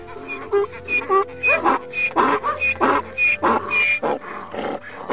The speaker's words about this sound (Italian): Stella sembrava impazzita, girava intorno a Nello abbaiando e Nello girava intorno a Stella.